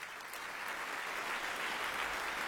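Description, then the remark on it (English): Steady, dense applause from a large audience in a concert hall at the Barbican for the guest leader of the BBC Symphony Orchestra, Igor Yusufovich, joining orchestra and chorus on stage; a broad wash of clapping that holds at a constant loud level throughout with no voices standing out. “Applause for the guest leader of the BBC Symphony Orchestra, Igor Yusufovich, joining orchestra and chorus on the Barbican stage.”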